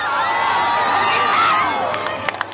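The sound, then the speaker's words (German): A large crowd on the beach at Soyer cheers and whoops during a solar eclipse, a small cloud covering the sun, with many overlapping excited voices, steady and fairly loud throughout, with a couple of sharp claps standing out near the end. “Am Strand von Soyer hat sich ein Wölkchen davor geschoben, trotzdem auch dort Jubel und Applaus.”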